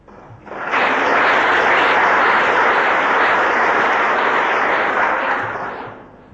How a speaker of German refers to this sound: Wollen wir Gott, der die Hände der Ärzte da auch ganz bestimmt gut geführt hat, einmal loben, und das können wir mit einem kurzen Applaus tun.